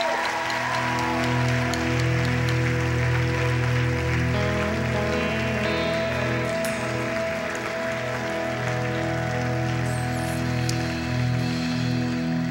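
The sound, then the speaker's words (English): An audience claps steadily for several seconds after a prayer, a dense, even patter of many hands, with sustained low musical tones humming underneath. “We're going to clap for you because this is awesome.”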